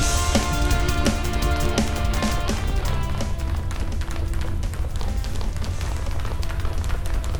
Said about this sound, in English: There's so many footsteps.